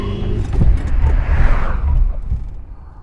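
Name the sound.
car approaching and passing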